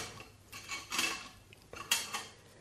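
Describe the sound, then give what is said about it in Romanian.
Surgical instruments being handled by a feldsher preparing for an amputation: small metal pieces clink and rattle in a few short, bright bursts separated by quieter pauses, with no voices. “Sora m-a privit ciudat, dar prin ochii felcerului a trecut o scânteie de milă și el a început să-și facă de lucru cu instrumentele.”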